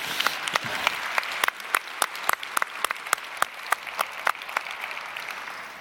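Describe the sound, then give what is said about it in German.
An audience applauds steadily for the hundreds of people who helped with the many actions, a dense wash of clapping with sharp individual claps popping out above it, continuing for several seconds without any voices. “Also dafür Applaus an alle anderen, als die, die hier sitzen.”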